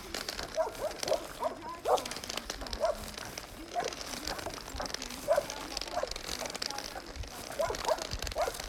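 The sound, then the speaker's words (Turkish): Dogs bark in short, repeated bursts near a guesthouse in Kumluca, the yaps coming irregularly over a steady outdoor background hiss. “Bu köpekler bağlı mı?”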